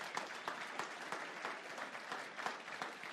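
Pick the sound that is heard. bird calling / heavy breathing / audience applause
audience applause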